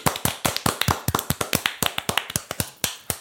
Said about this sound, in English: Hand clap.